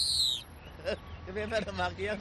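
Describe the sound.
A caged songbird, just uncovered by its owner on a morning outing, lets out a short, high, bright trill at the start, clear, then a person talks over a faint background hum.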